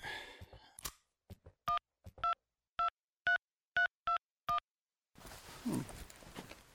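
A phone number is keyed in as a quick, steady run of seven touch-tone beeps, each short and clear, preceded by a few handling clicks and followed by a hiss of line noise.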